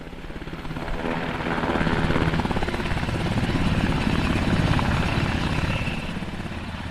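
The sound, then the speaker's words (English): A U.S. Army helicopter of the 1st Battalion 52nd Aviation Regiment, the Sugar Bears, flies the last round of supplies to Denali Base Camp in Alaska for the 2015 climbing season; it roars steadily, rotor blades thudding in a rapid, even rhythm over a broad engine drone that swells slightly and then eases. “Army helicopters flew the last round of supplies to Denali Base Camp yesterday”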